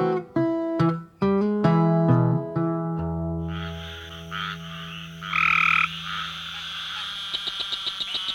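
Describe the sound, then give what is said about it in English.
Frogs croaking in a loud chorus: deep, resonant croaks repeat in a loose rhythm, then overlap with higher trilling calls and finish in a run of quick pulsing chirps. No voices. “It always comes back to the frogs.”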